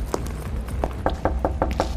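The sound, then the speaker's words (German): Knuckles rap on a door in a quick, uneven series of about seven or eight knocks, moderately loud, over a low background rumble. “Ja, sollen wir mal klopfen jetzt, oder?”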